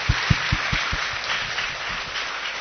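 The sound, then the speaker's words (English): An audience claps steadily for a speaker after her presentation, a dense wash of many hands at an even, moderate loudness, with a few heavier low thumps marking a quick rhythm at the start before blending into the crowd. “Once more, clap for her.”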